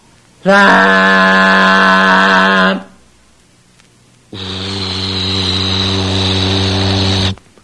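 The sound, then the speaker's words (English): Two loud, long boat-horn blasts with no talking, sounded in thick fog with the boat's engine cut: a steady, higher-pitched note of about two seconds, a short pause, then a deeper, rougher blast lasting around three seconds. “Give a blast of the horn, Bert.”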